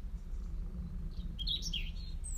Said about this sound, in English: But there is a lone blackbird, if you can pick it out before I shut up, and if that bird just gives us a little bit of a break. I don't want to tell it to shut up.